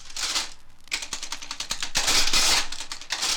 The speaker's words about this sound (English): Listen, fingers on keys. But look, it is not Hermes typewriters. Those keys are communicating numbers. These are adding machines. Billions of dollars are calculated on them.